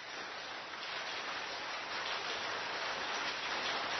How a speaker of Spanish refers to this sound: Gota a gota, en mi cabeza, siento, las noto, empieza a llover.